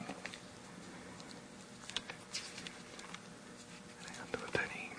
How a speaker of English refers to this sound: The rain is coming.